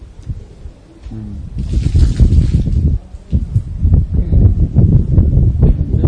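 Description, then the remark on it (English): Rainwater runs and drips off a roof, an irregular spattering patter over a steady rushing wash, fairly loud, with no voices. “Rain is coming down from that roof.”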